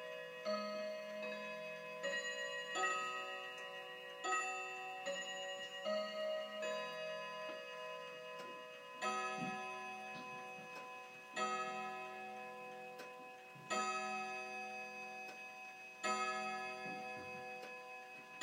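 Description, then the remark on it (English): A clock plays a slow, ringing chime melody, each bell-like note sustaining and overlapping, with faint mechanical clicks ticking between the strikes. No one speaks. “Love this clock. But I don't know why it clicks like that in between the chimes.”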